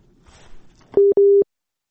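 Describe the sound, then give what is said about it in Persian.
A telephone busy tone sounds twice in steady, evenly spaced beeps after a radio call-in listener's line disconnected, following a brief stretch of faint background noise, clear, then cuts to silence. “بله شنونده عزیز صحبت کنین، قطع شد فکر میکنم.”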